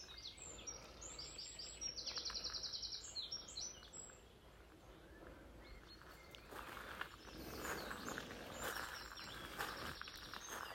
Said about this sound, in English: I'm just walking round the side of the barn now. So these little crunching noises or where I'm walking on the gravel.